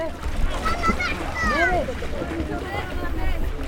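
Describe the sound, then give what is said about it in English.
Refugee children shout and call out excitedly while splashing in the water at the port in Mytilene on the Greek island of Lesbos, as adults wash themselves and their clothes; their high voices rise over steady lapping water and background activity. “At the port in Mytilene, a rare scene of refugees in water that doesn't involve tragedy.”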